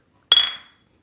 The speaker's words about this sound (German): Na, dann können wir ja jetzt anstoßen. Ja, mach mal. Prost. Prost.